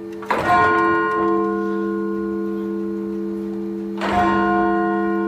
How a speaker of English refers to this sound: Those are the bells from St. Peter's Episcopal Church in Philadelphia, ringing out 400 times on Sunday to recognize the nearly 400,000 lives lost to COVID-19 here in the United States.